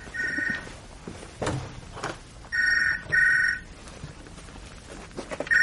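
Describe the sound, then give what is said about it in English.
A telephone bell rings in bright, trilling bursts about a second long, separated by short pauses, with three rings in all and a soft knock between the first two. “Saved by the bell.”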